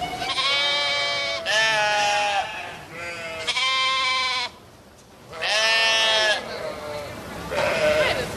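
Sheep bleat loudly, a run of five or six quavering, wavering cries following one another with brief pauses, as if several animals are calling back and forth.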